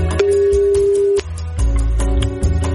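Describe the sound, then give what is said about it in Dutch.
A steady electronic ringback tone of an outgoing phone call made on NPO Radio 2 sounds for about a second over busy background music and clicks, then cuts off as the music continues alone. “Dus toch heel veel bellen in plaats van het appje voorlezen.”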